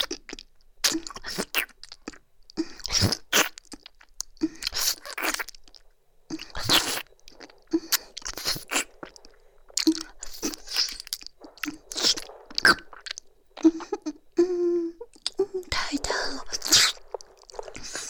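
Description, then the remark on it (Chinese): Loud, crisp crunches of food being chewed, coming in irregular bursts of sharp bites and grinding, with wet mouth sounds and occasional soft whispering between the chews. “嘴巴都装不下了，好大哦，这么厉害，可在我的嘴巴里已经吃这么久”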